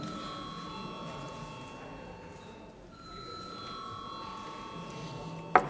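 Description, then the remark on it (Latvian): A parliament chamber bell rings continuously for several seconds with a steady, metallic, high tone, over a low murmur of the room, ending with a brief sharp click, calling deputies to vote on a bill amending the law on real estate tax. “Lūdzu zvanu.”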